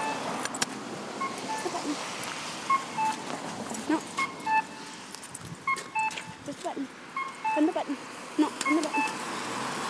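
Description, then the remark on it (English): Short electronic beeps from a pedestrian crossing signal repeat in quick, uneven bursts over steady street traffic noise, with faint voices in the background. “And where's the button?”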